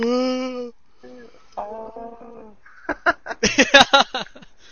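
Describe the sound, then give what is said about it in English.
Dogs howl in drawn-out, wavering tones, two long howls, then break into a quick run of sharp yelps and barks that grow louder before fading. “Oh, dogs howling in the background.”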